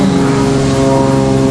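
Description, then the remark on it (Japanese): A steady, loud engine drone with a low propeller-like hum and broad rumble, like an airplane passing overhead, holding level throughout with no voices. “あ、飛行機だ。”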